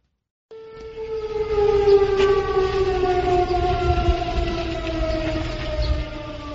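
A loud, sustained air raid siren wails across Israel early in the morning, with a steady tone that slowly sinks in pitch, its drone continuing unbroken over low background rumble with no one speaking.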